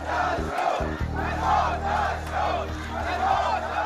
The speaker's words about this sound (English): A crowd of protesters in the Saudi Arabia village of Al Awamiya chanting, "Down with the Saud, death to the Saud," after the beheading of the prominent Shiite cleric Nimr al-Nimra.